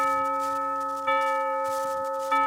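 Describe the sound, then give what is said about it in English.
A bell is struck three times at an even, unhurried pace as a film rating, marking Sinbad the Sailor, starring Douglas Fairbanks Jr. and Maureen O'Hara, as a three-bell picture. Each clear, bright ring sustains and overlaps into the next. It is fairly loud, with no voices. “A three-bell picture starring Douglas Fairbanks Jr.”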